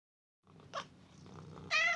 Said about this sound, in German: Zu Hause haben wir eine Katze.